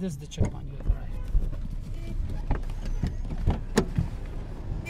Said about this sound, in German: Wir fahren nur wenige Häuserblocks weiter. Dort, rund um einen belebten Verkehrskreisel im zentralen Geschäftsviertel von Chahrinau, sollen die Taliban Feinde des Islamischen Emirats aufspüren.